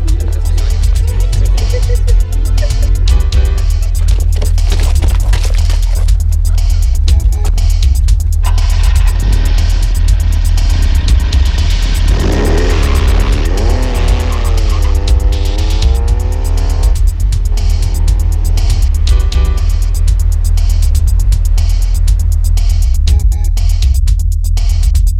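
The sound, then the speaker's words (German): A car drives along a road lined with tall cypresses and ivy with a constant low engine rumble, the engine revving up and climbing in pitch partway through as it accelerates, with no one talking. “Hohe Zypressen und wuchernder Efeu säumten die Fahrbahn, als sie an einem Terrassenbau im Landhausstil vorüberfuhren”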